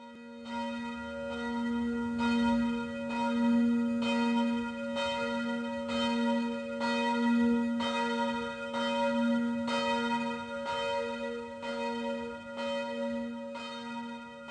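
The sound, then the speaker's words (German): Church bells ring alone in a steady, continuous peal, with strikes roughly every second and a half over a deep, lingering hum that fills the whole stretch. “Geläute zu Ende”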